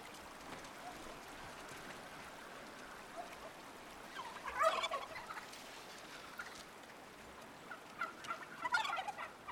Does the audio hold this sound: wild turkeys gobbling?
yes